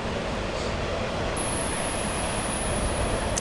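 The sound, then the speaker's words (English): A train rumbles steadily past, a loud, continuous low roar of rolling wheels with a faint high-pitched squeal riding on top, and no voices. “Still waiting for the train.”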